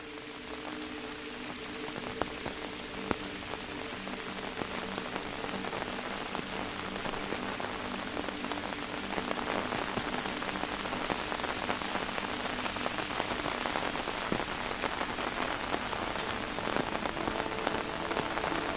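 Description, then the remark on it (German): Steady rain patters on an umbrella, a dense, continuous drumming of drops with occasional sharper taps, holding an even intensity throughout with no voices. “Der Regen verstärkt sich allmählich zu einem stetigen Prasseln auf deinem Schirm.”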